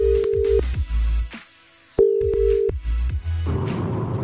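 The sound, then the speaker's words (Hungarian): A telephone ringing tone sounds while a radio host places a call to a listener's chosen recipient: two short steady electronic beeps separated by a pause, over a low rumbling backdrop that grows busier and louder near the end. “A kívánságműsor fordítva is működik, tehát hogyha megadod nekem a címzett telefonszámát, akkor én rácsörgök, és átadom neki a te személyes üzeneted.”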